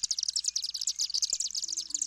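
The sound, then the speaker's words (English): A dense, continuous chatter of high-pitched twittering swift calls, rapid overlapping chirps with no pauses, steady in loudness throughout, with no voices. “That enables the swifts to exit chimneys and cavities in trees where they nest.”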